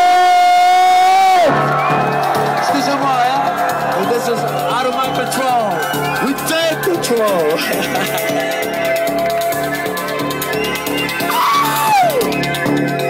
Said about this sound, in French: Et là, tout le monde qui crie, et ça a été un peu notre statement, parce que ça a été un peu ça en fait, c'était la teuf qui a déclenché un peu ce retour à Paris.